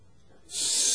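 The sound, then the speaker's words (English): A snake's hiss: after a brief quiet moment, a loud, steady, airy hiss bursts in and holds, sharp and breathy, until the end. “You listen for the hiss.”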